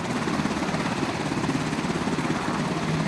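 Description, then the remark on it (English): A medevac helicopter carrying away a wounded Afghan soldier: its rotors thump in a steady, rapid rhythm over a dense engine roar, holding fairly loud throughout with no voices. “The medevac helicopter takes away the wounded Afghan soldier.”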